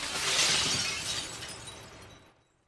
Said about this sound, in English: A man smashes a guy's head through a window.